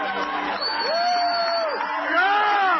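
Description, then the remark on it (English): A loud crowd hoots and howls, several voices sliding up and down in long wavering whoops over a dense background of cheering that stays steady throughout. “You hear the hooting? You hear the howling?”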